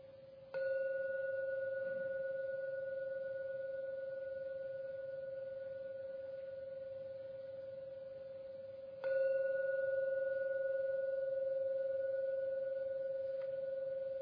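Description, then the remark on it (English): A Korean gong is struck twice to end a meditation, about nine seconds apart, each stroke sustaining a steady, humming mid-pitched tone with a fainter higher overtone that rings on without fading. No one speaks. “Please listen to every sound of the gong and let the ringing, the resonance from the Korean gong take you out for your meditation.”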